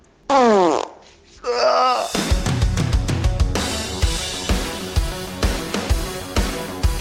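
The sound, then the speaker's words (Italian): Two loud, buzzy farts with wobbling, sliding pitch come one after the other in the first two seconds, let out in the morning after holding in gas all night, then a rhythmic music track with steady beats takes over. “Parenzo, trattengo tutta la notte l'aria e al mattino sono devastato. Ascolta qui.”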